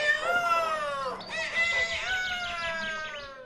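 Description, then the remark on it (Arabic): A rooster crows loudly, two long harmonic calls in succession, the second rising and wavering, with no other sounds around them. “وهكذا يا أصدقائنا ظل الديك المغرور يصيح ويصيح ويصيح حتى انزعج النسر كثيرا.”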